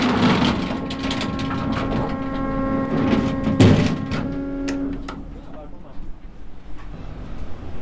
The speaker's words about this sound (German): Sie drückt einfach nur mit ihrem Bug bei laufenden Motoren gegen die Anlegestelle und fährt dann den bootseigenen Steg aus.